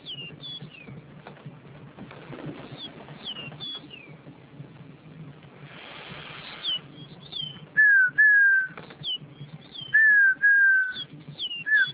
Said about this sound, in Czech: To je pěnkava.